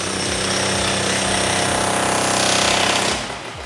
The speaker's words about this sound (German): Gut, dann bohren wir jetzt bitte mal den 8er Bohrer rein. Und dann wird jetzt hier gebohrt.